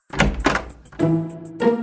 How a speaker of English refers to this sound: One day, the door opened.